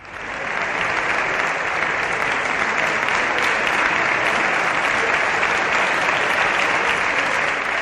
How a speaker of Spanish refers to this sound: Que Pedro Sánchez, por ejemplo, acude al Congreso para presumir de las ayudas europeas, pues allá que se presenta toda la bancada socialista apretados como piojos en costura para que no les pongan falta en el enésimo aplauso al líder.